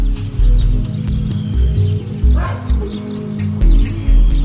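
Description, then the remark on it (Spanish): A dog barks several times in short, spaced bursts, clear, over a steady rhythmic musical backing with a deep, pulsing low end. “Al día siguiente, un perro que pasaba por allí usó el mismo sendero para atravesar el bosque.”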